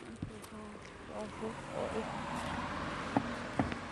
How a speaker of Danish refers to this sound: Nu skal I lige passe på her, der er en vej. Der kommer en bil.